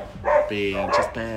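A voice imitates dogs barking, giving several drawn-out woofs in quick succession, loud and harmonic, with no other sounds around them.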